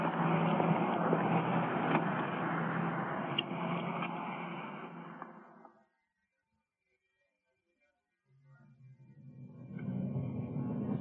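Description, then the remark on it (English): A police officers' car drives along with a steady, fairly loud engine and road rumble that fades out into a couple of seconds of silence, then the low drone returns. No one speaks. “So, let's get back to our car and get underway.”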